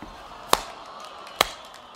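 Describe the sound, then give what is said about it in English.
Slow clapping by a group of people: two sharp, crisp claps land nearly a second apart, standing out clearly over a faint, steady background hiss with no talking. “Why are you slow clapping? Why are you all slow clapping?”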